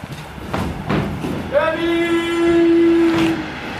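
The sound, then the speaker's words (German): A train passes with a steady rumbling roar, and midway a long, steady whistle blast sounds for over a second before fading back into the rolling noise. “Oh, jetzt kommt der Zug, jetzt gehe ich hier schnell rein.”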